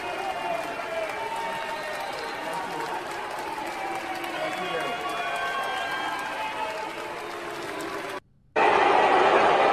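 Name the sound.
crowd booing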